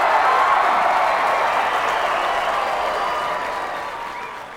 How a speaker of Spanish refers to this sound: Y con un fortísimo aplauso, recibimos a nuestra queridísima Elizabeth Traynor.